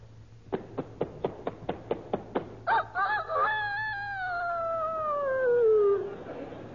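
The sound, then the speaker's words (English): A person imitates a year-old rooster: a quick run of about ten sharp clucks, then a long, wavering crow that slowly falls in pitch and fades out, loud. “Now a year old rooster.”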